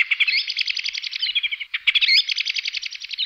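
birdsong

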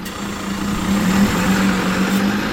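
city bus driving past

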